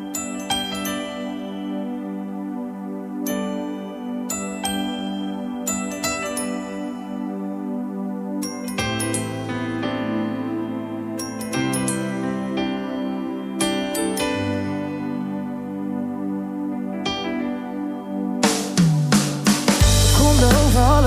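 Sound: pop song playing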